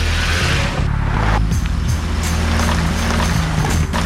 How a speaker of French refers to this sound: Hein, ça arrête plus, là. Des chars, ça arrête plus, il y en a des milliers, on est envahis, il y en a partout.